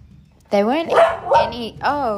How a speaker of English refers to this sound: The dog was getting so worked up and cranky. The sun was shining on this hole, and every time it shimmered, the dog would sniff the air and get really growly and grumpy and start to dig at that area.